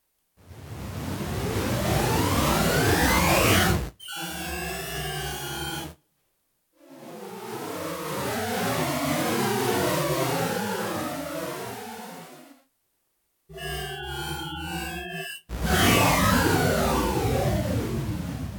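A sonified colour image: dense synthetic tones with criss-crossing pitch sweeps alternate with steadier stacked, wavering tones, separated by brief silences. The sound pans from left to right and back as the colour changes, with blue given a different panning.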